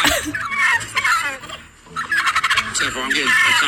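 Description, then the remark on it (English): A turkey gobbles loudly in two rapid, warbling bursts separated by a brief pause, the rattling calls filling the whole recording. “He's quacking at a turkey and calling it a chicken.”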